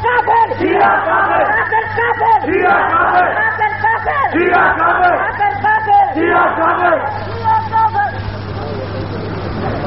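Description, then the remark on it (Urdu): A large crowd chants slogans in unison during a speech, loud and rhythmic, with voices rising and falling in repeated bursts for the whole stretch, a steady low hum running underneath. “ابھی نعرے کا وقت کچھ بڑا ہے, آپ ذرا سکون کے ساتھ میری تقریر کے عنوان کو سمجھتے جائیں, تھوڑی دیر ٹھہر کے نعرہ بلند کر لینا.”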